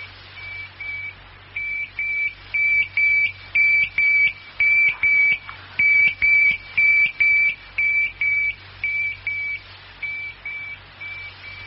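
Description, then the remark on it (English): A tracking receiver with a 20-mile range beeps steadily, about two high-pitched electronic tones per second, swelling louder in the middle and fading again, over a low constant hum with no voices. “Outside the range of your receiver soon.”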